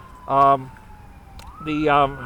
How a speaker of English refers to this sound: I hear a siren there. I hope they're not coming to break up our gathering here.